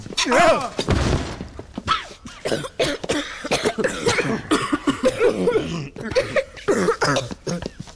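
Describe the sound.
A stuck door in an old house gives way and tears off its hinges in one loud, brief splintering crash with a heavy thud, followed by people talking and reacting.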